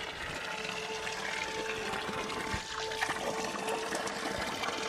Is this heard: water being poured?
yes